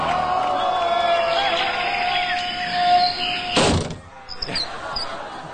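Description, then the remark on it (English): A game show whammy sound effect as a whammy lands on a contestant, knocking his total to zero: a wavering electronic tone runs for a few seconds, then a sharp crashing burst, followed by a few quick chirpy blips over a low background murmur. “And a whammy in 3D for you there”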